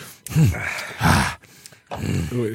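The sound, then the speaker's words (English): Heavy, breathy exhalations after taking a shot of liquor come in three bursts, each a loud voiced groan or gasp trailing into airy breath. “Y'all niggas getting breathing heavy over there.”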